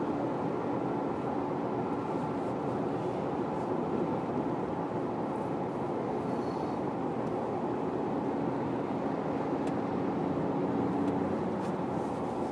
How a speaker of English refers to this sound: They fly those 51 Mustangs around the city, which is kind of neat. Yeah. It's always fun to just hear how loud those planes are. Oh, yeah. They get so low, they're just screaming.